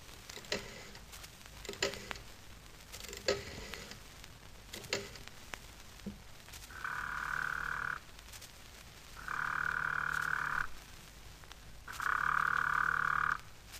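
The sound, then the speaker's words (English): A run of quick clicks and taps, then a telephone rings three times as a phone call is placed: long, steady, buzzy tones of equal length separated by short pauses, with no voices. “I'll ring him up, I think. It'll be safe enough from my phone.”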